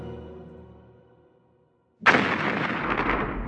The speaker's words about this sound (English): A great boom sounded through the connection.